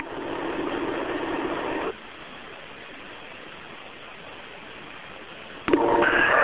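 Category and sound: vehicle, truck engine running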